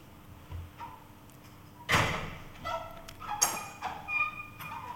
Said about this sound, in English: Can I just ask a favour? Could someone just close that door for me? It's just a bit noisy.